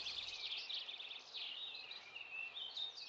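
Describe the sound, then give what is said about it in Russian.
A songbird sings in a steady stream of high, rapid twittering trills and chirps, fairly soft, continuing throughout with no voices. “Услыхал медведь прекрасное пение какой-то птицы и говорит: «Братец волк, что это за птица, которая так прекрасно поет?»”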